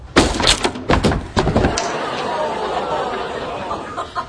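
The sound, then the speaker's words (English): A door being broken down: a rapid run of heavy, loud crashing blows in the first couple of seconds, then a lingering rumble and clatter as background voices murmur. “He's breaking down the door.”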